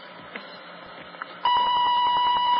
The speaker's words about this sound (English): I can't come to the phone right now. Please leave your name, telephone number, and a short message after the beep.